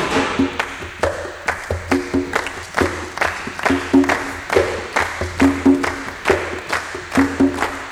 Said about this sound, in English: It just marks the time. So if you were to clap around, you could go.